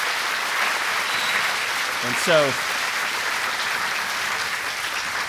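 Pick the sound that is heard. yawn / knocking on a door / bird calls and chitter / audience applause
audience applause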